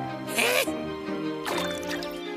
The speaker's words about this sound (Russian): Надо цветок напоить. Ой. Так что нужно сделать? Напоить цветок. Да, точно, напоить.